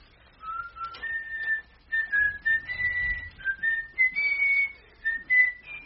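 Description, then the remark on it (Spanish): A person whistles a sweet, gentle melody, the tune moving through a series of sustained, gliding notes with short breaks between phrases. “No, hombre, no le chifles melodías dulces.”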